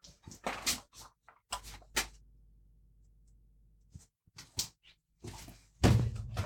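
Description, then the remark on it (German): Scattered knocks and bumps, then a quiet stretch, before a 55-inch television in a basement topples over with a loud, heavy thud and clatter near the end. “Huch, jetzt ist mir der Fernseher umgefallen.”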